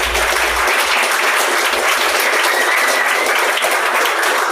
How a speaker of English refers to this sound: I have to recognise that I'm here that represents a fantastic team that's put together this bid. So I want to acknowledge that and give them all a round of applause.